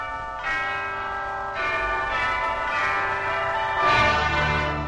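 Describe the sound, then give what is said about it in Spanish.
Church bells ring out loudly and continuously, several overlapping strikes blooming with rich, shimmering overtones that ring on and blend together, with no voices present. “Las campanas y ya está”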